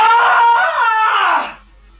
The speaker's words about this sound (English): You have to scream. You haven't given us the scream. Okay. I'll give you a real blood curdler. Ah!